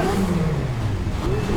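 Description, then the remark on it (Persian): A loud engine runs continuously, its pitch dipping and then climbing again as it revs up, with a rough rumbling drone throughout and no voices. “اون ماشین رو خاموشش کن و بیا بیرون.”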